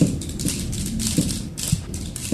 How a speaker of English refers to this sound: Today, somebody just started clicking their sticks to the beat.